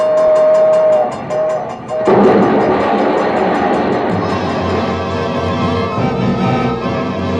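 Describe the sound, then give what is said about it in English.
A train horn blares briefly, then a loud rumble of the train rushing through a railroad crossing, with the crossing bell ringing rapidly and steadily throughout. “We're coming to the they crossing. Say it's There's quiet a train.”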